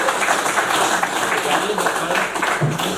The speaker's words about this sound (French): Merci à tous mes volontaires, parce que finalement, vous n'étiez plus que deux. On peut les applaudir.